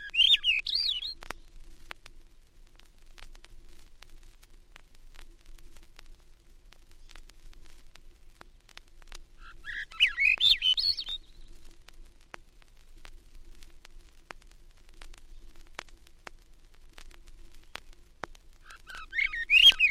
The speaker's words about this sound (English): Now the ascending notes of the olive-back thrush among the spruces of the Adirondacks.